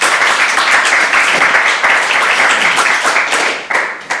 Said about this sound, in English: Applause, eh? All right, I'll give you it.